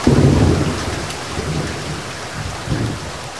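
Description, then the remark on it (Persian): Heavy spring rain and hail pour over the city of Tehran in a dramatized Qajar-era scene, a steady dense hiss across the whole clip, while deep rolls of thunder rumble loudly at the start and again near the end. No voices. “نقل یه بهار، یه تگر، یه بارون بیبند که شهر رو میگیره و خواب از چشمای شاه قاجار میدوسته.”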